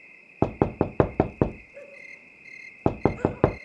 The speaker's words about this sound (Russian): Вышел на ее стук мастер.